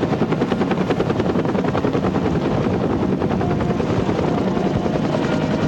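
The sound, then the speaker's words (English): A Coast Guard helicopter thunders overhead, its rotor blades chopping in a rapid, steady rhythm over a loud engine roar that fills the whole recording without letting up. “I looked up and there was a Coast Guard helicopter.”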